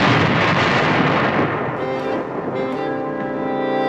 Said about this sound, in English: What was that? English horns. No, no, no, before that. Oh, gunfire. Oh, the Americans, General.